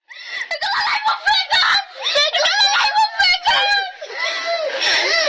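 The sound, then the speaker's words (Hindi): Children trapped in rubble after bombing in Eastern Ghouta, Syria, scream and wail in high, strained voices, several cries overlapping in loud bursts that continue without pause for several seconds. “Syria के पूर्वी घुटा में बमबारी के बाद मलबे में फंसे इन बच्चों की चीखें दुनिया भर में सोशल मीडिया पर गूंज रही हैं।”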